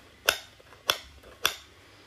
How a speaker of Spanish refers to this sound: Sonido de puerta.